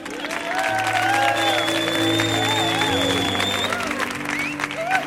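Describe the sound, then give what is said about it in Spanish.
A television show audience claps steadily for about five seconds to welcome a guest, don Arcadio Yulupuki, a dense and fairly loud patter of applause mixed with bright upbeat music playing over it. “Fuerte el aplauso para don Arcadio Yulupuki.”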